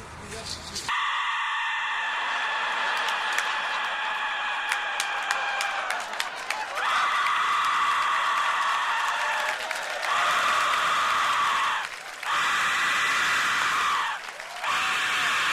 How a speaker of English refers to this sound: Now, of course, I've heard of gongs and tuning forks, but I've never been soothed by the sound of a Mexican death whistle. Here's how it sounds in the hands of a master. This is the death whistle.